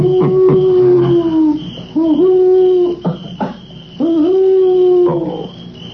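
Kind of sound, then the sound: bird, owl hooting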